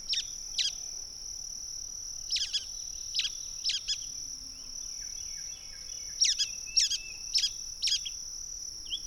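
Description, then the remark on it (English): A brown-headed nuthatch, a pinewood species, gives short, squeaky high-pitched chirps, often in quick pairs, in scattered bursts over a steady, high buzzing insect drone. No one speaks. “And then another pinewood species chimes in, a brown-headed nuthatch.”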